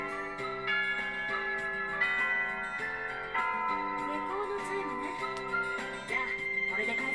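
A school bell chime signalling time to go home plays a slow, steady melody of ringing, sustained tones that overlap and hum for several seconds at an even, moderate loudness.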